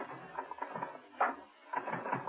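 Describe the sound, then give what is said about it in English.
Several typewriters clatter away together at night as a long line of typists type envelopes, a busy overlapping stream of sharp keystrokes and mechanical taps at a steady, fairly loud level, with no voices. “To his amazement, Steed found himself gazing at a long line of typists, all typing away at envelopes, throwing them into growing piles in their delivery baskets.”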